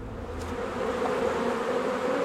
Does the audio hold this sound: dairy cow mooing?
no